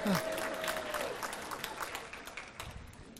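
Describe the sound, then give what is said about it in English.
A crowd applauds steadily, with dense overlapping claps and a few brief shouts of cheering at the start, the clapping holding at a fairly even level before thinning slightly toward the end. “Wow, that was one of the biggest amens I've gotten so far today.”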